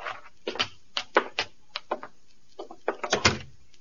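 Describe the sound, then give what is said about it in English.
The door of a shack on the outskirts of Northfield, Minnesota, being opened for arriving men, heard as a string of sharp, irregular clicks and knocks like a latch and bolt rattling, ending in a slightly heavier thud. No voices. “All right, Bob, open the door for them.”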